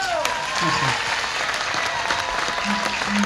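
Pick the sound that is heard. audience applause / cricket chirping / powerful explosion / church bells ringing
audience applause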